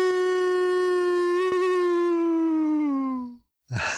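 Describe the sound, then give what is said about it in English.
Human voices imitate a hound dog's howl on the count of three: one long, loud, sustained mid-pitched note lasting over three seconds that slowly sags downward, then breaks off into a brief breathy rush of air. “I don't know if you know about it or if you got those in your notes or not, but we have all of our guests close us out with their best old hound dog howl.”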